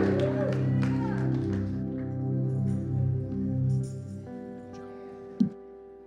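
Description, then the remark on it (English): A church audience shouts and claps at the close of a service over sustained, organ-like chords; the clapping is dense at first, then the noise settles into a steady held chord, with a single sharp thump near the end. “and we're going to go out of here doing what? Shouting.”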